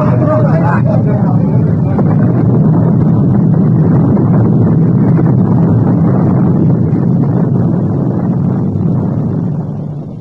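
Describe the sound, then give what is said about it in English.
The torpedoed ship Morning Star sinks beneath the waves as its boilers burst: a loud, continuous low roar of churning water and rushing air that holds steady for about ten seconds before easing slightly at the end. “Once proud Morning Star slid beneath the waves, her boilers bursting in her last dying gasp of defiance.”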